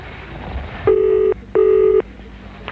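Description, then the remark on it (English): Two steady electronic telephone dialing tones in a Boyneside Radio Advertising radio advert, each lasting about half a second with a short pause between, clear and fairly loud over a faint background hiss. “All it takes is a simple phone call.”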